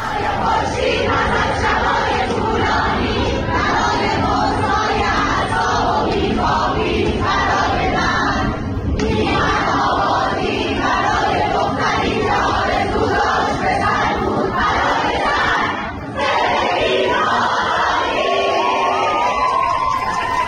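A crowd of young women students shouts loudly and continuously in unison in the middle of Soore University, their rhythmic chanting rising and falling in steady bursts with brief pauses between phrases.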